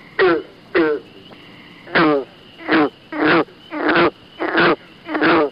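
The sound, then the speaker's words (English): A green frog calls repeatedly, about nine short twangy gulps in an uneven series, each a loud, banjo-like plunk separated by brief pauses, with no talking. “Green frog.”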